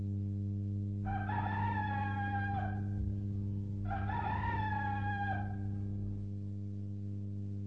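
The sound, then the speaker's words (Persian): A rooster crows twice, each long cock-a-doodle-doo call lasting about two seconds with a short pause between, over a steady low hum. “روباهی که در آن نزدیکی لانه داشت همین که صدای خروس را شنید”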